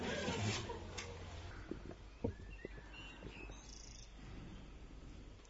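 Birds chirp now and then in a quiet space, their thin calls drifting over a low background hum with a few soft knocks and rustles.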